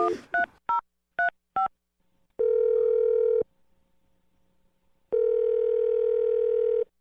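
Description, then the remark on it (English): A quick run of five touch-tone dialing beeps as a phone number is dialed on a morning radio show, then two long, steady telephone tones separated by a silent pause, with no one talking. “Let's just dial the phone number.”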